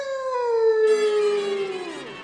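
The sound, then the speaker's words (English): A single long, loud howl from an Airedale dog, starting high and sliding slowly downward in pitch over about two seconds before trailing off, with no voices. “Ah, so you're the Airedale that's been keeping me thought out late every night, huh?”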